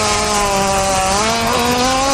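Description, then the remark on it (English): A hippopotamus fart: one loud, sustained buzzing rasp lasting about two seconds, with a steady low pitch that wavers slightly. It sounds rather like an engine drone, with no voices. “That's an obvious hippo fart.”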